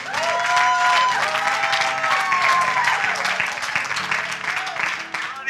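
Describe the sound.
A crowd applauds steadily for several seconds, dense clapping at a strong, even level, with a few whoops and cheering voices rising above it before it tapers slightly at the end.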